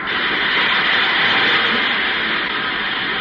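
A steam train pulls in, heard as a loud, steady rushing hiss of steam that holds an even level throughout with no distinct chugs or whistle, and no voices.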